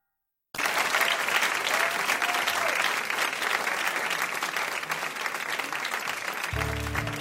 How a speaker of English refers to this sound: Let's have one more round of applause for Tony, and welcome back, Andrea and Eric.